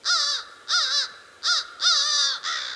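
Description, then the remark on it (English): A crow caws five times in quick succession, harsh and loud, each call about half a second long with short gaps between them and no other sounds around. “It took a long time to garner the trust of these two birds, and now we have this sort of reciprocity of respect.”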